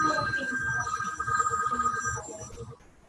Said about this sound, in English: There's like a phone going off. And I just turned it off.